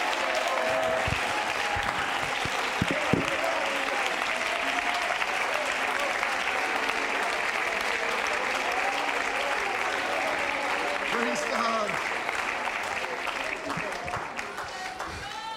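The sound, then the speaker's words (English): An audience claps its hands in sustained, steady applause for about fifteen seconds, loud and dense, with scattered voices and faint cheering mixed in beneath the clapping. “I wish somebody would clap their hands as if to say, anything is possible.”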